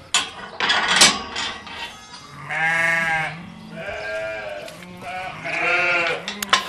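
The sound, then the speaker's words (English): Sheep being fattened in Wicklow bleat in pouring rain, three long wavering calls one after another, loud and clear, with a burst of rustling noise just before them and no one talking. “making hay while the sun shines, or rather fattening sheep while the rain still pours.”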